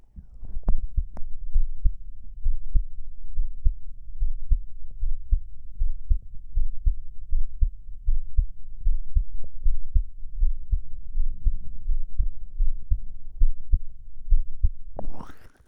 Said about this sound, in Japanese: いかがですか。結構早いね、心音が。どうしよう、興奮してるのかもしれない。